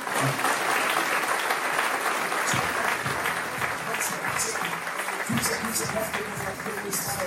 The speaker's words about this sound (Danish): Så hvis I begynder at klappe, så vil vi være der.